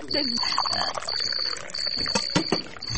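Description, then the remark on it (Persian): Water pours steadily for about three seconds, a continuous splashing rush with a thin high ring running through it, while low voices murmur underneath. “وی من از دسته که فکر شورا بودم به تو شوروا نه به تو او گرم آوردم.”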